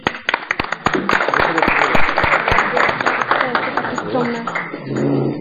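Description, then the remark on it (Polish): An audience at a debate bursts into loud, dense applause for the Akademia Ekonomiczna student research club, many hands clapping in a steady crackling wash for several seconds, with a few voices calling out near the end as it fades. “Dziękujemy i brawo dla Akademii Ekonomicznej, naszego kołu naukowego.”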